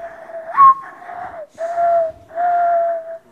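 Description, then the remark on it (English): A singer whistles a bird call imitation on NPR's Ask Me Another: a series of clear, sustained tones with an upward-sliding opening note, then two longer steady phrases, fairly loud with no talking. “Do you do any bird calls?”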